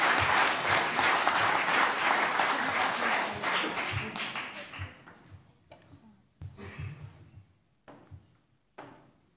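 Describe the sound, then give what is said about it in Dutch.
Loud, dense applause from an audience, for a child pledging to serve on the children's council of the municipality of Oude IJsselstreek, fills the first five seconds, then fades into scattered claps and a few isolated bursts before trailing off. “Een daverend applaus voor Caitlin.”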